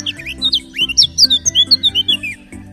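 A bird chirps in a quick, lively run of about a dozen bright, high tweets, clear, with a soft low musical backing underneath.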